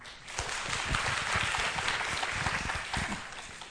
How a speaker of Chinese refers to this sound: 那我们看到不同的孩子的时候，都要用好奇的眼光看着他，报以热烈的掌声。